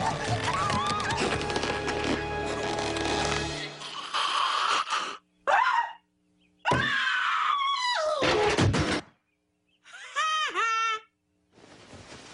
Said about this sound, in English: Nightmare on Elm Street type music, like, you know? And that fucking shriek